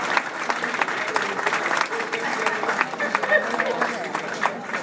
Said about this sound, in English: I do appreciate you joining us, and of course, the wonderful Royal Cunard singers. So could we just give them a round of applause before they even start singing?